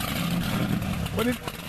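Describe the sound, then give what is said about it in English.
A powerboat engine runs in a steady, rumbling drone, fairly loud throughout, with a brief muffled voice rising over it near the end. “It's a powerboat.”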